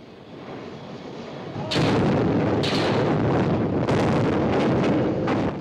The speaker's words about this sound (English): As the charges explode, two columns of water surge upward.